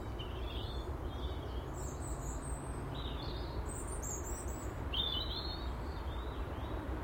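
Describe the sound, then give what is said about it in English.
Several birds sing and chirp in short, bright phrases scattered throughout on a calm, dry, very mild December morning, over a steady low outdoor rumble. No one speaks. “Birdsong.”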